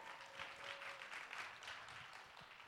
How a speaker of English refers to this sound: Can we give another round of applause to women preachers? Come on, people.